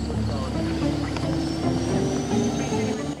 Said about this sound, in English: Rotor blades spin as the chopper prepares for takeoff.